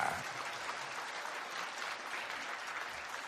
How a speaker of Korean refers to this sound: 자, 우리 예수님 위해서 박수 한번 쳐드리자.